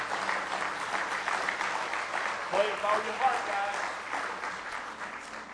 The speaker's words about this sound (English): Give the Lord one more good hand clap of praise.